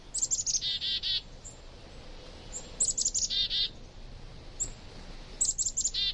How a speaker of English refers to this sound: Many winter flocks include members of different species banding together to brave the cold. Songbirds in these flocks benefit from having other birds nearby. They can recognize warning signals from other species and follow them to sources of food.